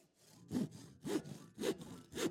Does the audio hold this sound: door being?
no